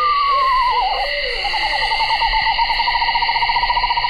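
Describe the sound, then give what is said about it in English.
An owl calls: a descending, whinnying wail slides downward, then gives way to a long, steady quavering trill. A constant high insect-like drone hums underneath throughout. “Barred owls will start announcing themselves too, and they are breeding by mid-January, with screech owls not far behind.”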